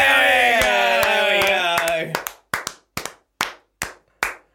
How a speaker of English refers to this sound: Why are you clapping like that?